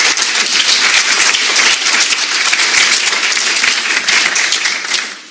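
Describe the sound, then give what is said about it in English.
An audience at an evening chamber of commerce event applauds the candidates present, steady dense overlapping clapping at a loud, even level for several seconds before beginning to taper off at the end. “So let's give them a big round of applause for coming out and doing this.”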